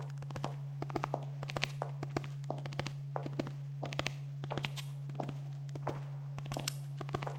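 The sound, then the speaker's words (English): Steady footsteps tread across a wooden floor upstairs, a long run of thudding steps at an even walking pace, with a low constant hum beneath and no voices. “But we definitely heard footsteps upstairs.”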